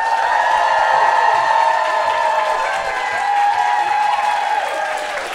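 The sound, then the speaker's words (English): Sustained applause from a large crowd as a performer is welcomed to the stage, a dense steady patter of many hands clapping at once, loud throughout with a slight dip and swell midway and no speech over it. “Please, huge round of applause.”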